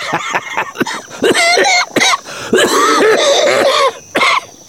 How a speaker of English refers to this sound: Emmett's coughing had gotten worse the past week, but he offered no explanation, and neither Preacher nor Kirby asked.